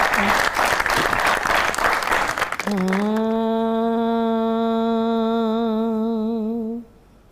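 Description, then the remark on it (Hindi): A crowd claps loudly for a few seconds, then the applause fades as a single voice sings one long, wavering sustained note that holds steadily before cutting off. “मेरा ख्याल है कि जिस वजह से इनके हस्बैंड ने इन्हें सपोर्ट किया उस आवाज को सुनना चाहेंगे। बहुत सी तालियों में।”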